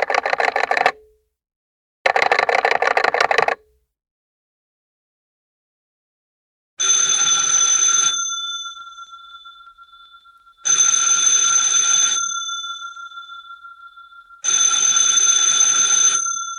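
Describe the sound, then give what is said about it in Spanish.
A telephone rings twice in loud, rattling bursts, followed by three clear bell-like tones spaced a few seconds apart, each ringing out and slowly fading. No one speaks. “Qué bueno que nos podemos comunicar por teléfono.”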